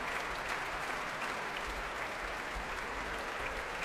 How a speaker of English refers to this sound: And now, as the applause continues here in South Kensington at the Royal Albert Hall, I'll hand you on to Ian Skelly in Broadcasting House.